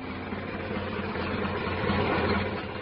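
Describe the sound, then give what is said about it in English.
A Model A coupe's engine idles, a steady, even rumble with a low droning hum that holds at the same level throughout, with no voices. “Back in those days, I drove a Model A coupe, and it was quite a car.”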